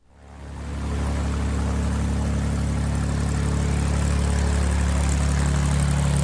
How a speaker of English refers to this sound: The constant sound of an Alaskan bush plane engine fills my ears as we fly through Lake Clark Pass.